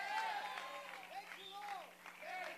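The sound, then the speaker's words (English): A church audience claps steadily while praising God as a crowd of voices calls out and shouts over the applause at a fairly even level. “It's your turn. I didn't say clap.”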